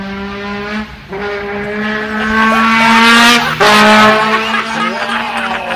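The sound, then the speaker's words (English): A man on a little scooter plays a loud trombone, blaring buzzing, sustained notes that mimic a revving hot hatch engine on an empty street, the pitch climbing and dropping in a few long bursts with brief breaks between them. “The guy with the trombone is making the noise.”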